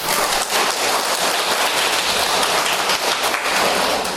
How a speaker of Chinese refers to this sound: 坐在这前面这三位，他们从香港来啊，大家鼓掌啊。